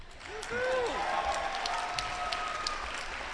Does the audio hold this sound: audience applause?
yes